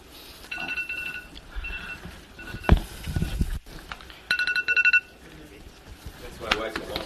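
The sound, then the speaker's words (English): A wake-up alarm going off: bursts of rapid, high-pitched electronic beeping, with a louder run of pulses midway, over faint murmuring voices and background noise. “That's my wife's alarm when she gets up.”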